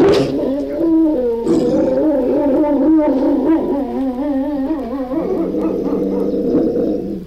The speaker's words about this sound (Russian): Вот видите, ребятки, как они разговаривают, волки на своем языке.